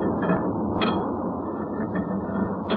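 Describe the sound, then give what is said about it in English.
A heavy metal cover scrapes and clanks into place over the open charging hole of a furnace, over the furnace's steady, loud roaring rumble, with a few sharp metallic knocks standing out along the way. “Let me replace this cover so we can talk in a normal tone.”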